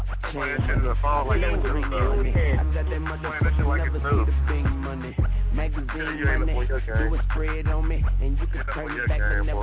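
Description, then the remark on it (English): An old rap song, one first heard in 2000, plays continuously, with a rhythmic rapped vocal over a thick, booming bass line and a steady beat. The sound is loud but dull and muffled, lacking crisp highs. “Yeah, this song is old as shit.”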